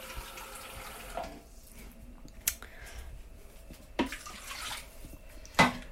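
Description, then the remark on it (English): About half a cup of water is poured into a food processor for a fig topping, in two short, splashy gushes, with a few sharp clicks and knocks between them. No one speaks. “And I'm going to add about half a cup of water.”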